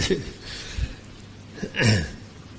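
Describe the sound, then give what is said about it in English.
A few short, muffled throat-clearing bursts, like a cough being held back; the last and loudest lands near the end, with no speech. “I'm suppressing a cough.”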